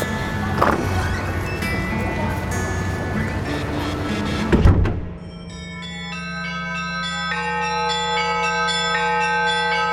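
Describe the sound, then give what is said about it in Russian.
Church bells ring in a dense, clanging jumble for the first half, then a sudden break leaves steady, sustained ringing tones that hum and overlap at a moderate loudness. “Колокола поют, кузнецы куют”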